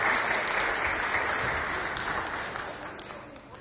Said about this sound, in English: Okay, well done, well done. Give them a clap.